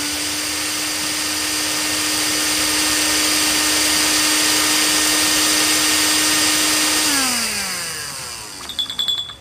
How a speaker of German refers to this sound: Dann hole ich direkt mal den Pürierstab und dann wird das Fruchtfleisch zu Püree verarbeitet. Achtung, jetzt wird es kurz richtig laut.